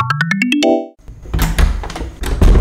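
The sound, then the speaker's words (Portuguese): A quick rising musical flourish gives way to a loud clatter as a woman shuts all the doors and windows of a house, with several thuds and bangs in quick succession. “Tô fechando todas as janelas e portas.”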